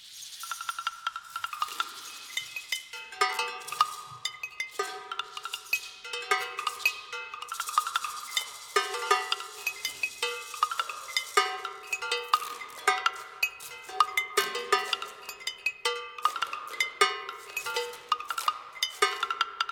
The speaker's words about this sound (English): That's a piece you're hearing me performing there on the glass bottles, cowbells, and woodblocks, and then our Southern Oregon University Percussion Ensemble of about 2015 performing along with me